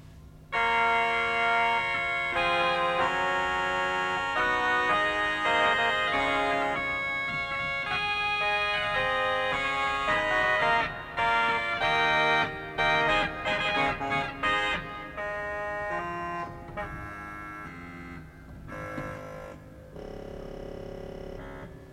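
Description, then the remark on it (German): A pipe organ's Regal reed stop plays a slow passage of buzzy, nasal sustained notes and chords, rich in overtones, holding steady in volume before thinning out toward the end. “Sie hören jetzt Regal.”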